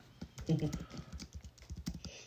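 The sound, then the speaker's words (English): Rapid clicking of keys on a computer keyboard as someone types a list into a document, a steady patter of keystrokes lasting a couple of seconds with a faint voice briefly underneath. “So if you hear me typing, bear with me for one moment.”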